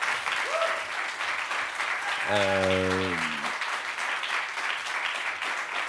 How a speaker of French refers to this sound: Alors, merci mille fois à tous les deux d'avoir répondu à mes questions. Vous pouvez les applaudir encore.